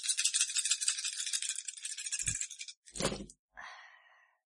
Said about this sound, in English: Ladies and gentlemen at home, you cannot see the veritable handful of dice she's just picked up. Right. But you'll be able to hear them in a sec.